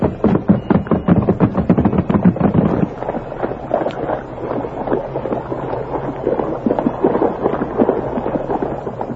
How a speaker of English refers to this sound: Three horses plunged into the swirling waters while the current fought to drag them under. Silver, his powerful legs working like pistons, took the lead, responding valiantly to the masked man's shouts of encouragement.